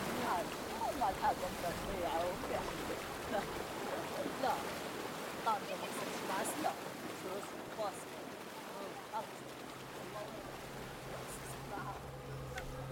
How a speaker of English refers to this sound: Sometime later, the sound of small boats rub up against the port side, and voices call out in Arabic.